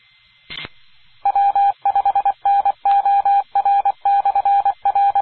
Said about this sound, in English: I was about to comment that I was hearing crickets, but instead I heard Morse code.